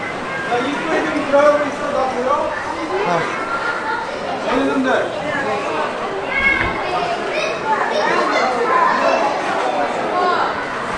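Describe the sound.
A busy crowd at a cinema ticket box with IMAX, in a shopping center, fills the space with steady overlapping chatter, many families with children, children's voices rising now and then through the babble, and footsteps and bustle mixed in throughout.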